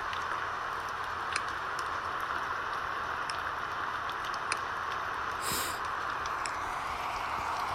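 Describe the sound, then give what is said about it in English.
Steady rain falls outdoors, a dense continuous hiss with scattered sharper drips and ticks, no voices present. “Now, do you want to play the morality police out here? In the rain?”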